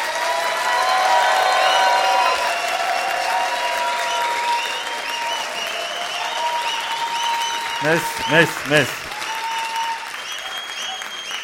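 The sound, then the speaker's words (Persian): An audience at a coaching session applauds steadily for a woman, dense clapping throughout, with a man's voice briefly speaking over it near the end. “خواهش میکنم برای خانم من یک کف بزنین.”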